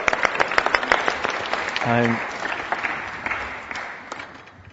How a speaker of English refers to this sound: Shall we have a round of applause for Mushroom Man?